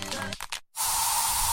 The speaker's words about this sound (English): So you just used bug spray in your home. Now what?